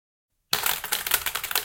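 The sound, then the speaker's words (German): After a brief silence, a mechanical keyboard clatters with fast, continuous keystrokes, fairly loud, the sharp clicks tumbling over each other in an uneven rhythm with no voices. “Ja, da habe ich vor kurzem eine mechanische Tastatur geholt. Das soll so sein.”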